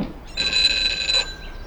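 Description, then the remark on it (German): The doorbell of a wooden house on the coast rings once, a steady, bright electric ring lasting about a second before cutting off abruptly, heard alone with no one talking. “Als sie zur Tür ging und läutete, hörte sie eine Stimme aus dem Garten rufen.”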